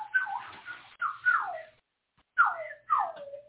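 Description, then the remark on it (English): A voice imitates sparrow chirping: four quick, bright, downward-sliding chirps in two pairs separated by a short pause, with no talking over them. “That little sparrow noise.”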